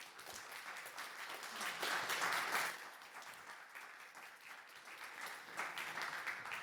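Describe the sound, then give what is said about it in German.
An audience in a hall applauds the two presenters after a lecture, a dense wash of many hands clapping that swells around the second or two mark, then continues at a slightly lower, even level to the end. “Gebt Ihnen nochmal eine Runde Applaus für unsere beiden Vortragenden hier.”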